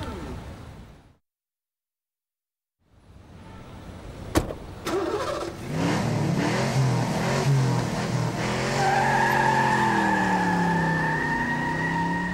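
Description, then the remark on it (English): After a brief silence, a car door slam is followed by an engine revving up loudly, tires skidding, and a robber's getaway car speeding off with rising, whining engine tones, strong. “It's the gold robber. Come on, let's follow the car.”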